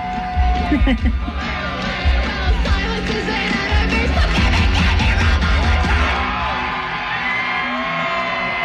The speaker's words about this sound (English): Crowd is going nuts.